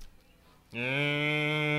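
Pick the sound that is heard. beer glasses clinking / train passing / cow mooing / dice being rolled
cow mooing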